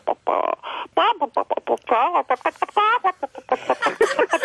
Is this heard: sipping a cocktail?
no